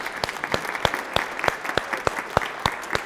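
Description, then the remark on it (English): An audience breaks into a round of applause, with sharp, evenly spaced claps standing out above a softer wash of hand-clapping at a steady moderate level, with no one talking. “And we need to give him a round of applause.”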